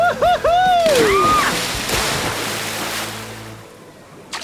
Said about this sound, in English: Over the jump! And now for the water spout!